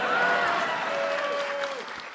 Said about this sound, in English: So in conclusion, that's supposed to be an applause line.